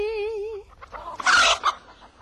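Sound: chickens clucking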